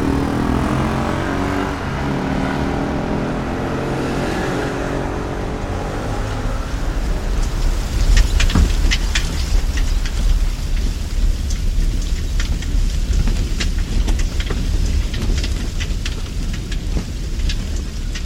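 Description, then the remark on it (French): Outdoor ambience on boulevard Voltaire, in front of the wall separating the railway station from the boulevard, where wind and port are strongly felt: a steady low rumble, joined about halfway through by a dense crackling patter like rain on hard surfaces, with scattered sharp clicks and no voices. “On est sur le boulevard Voltaire, devant le mur qui sépare la gare du boulevard Voltaire, qui est le début de la ville.”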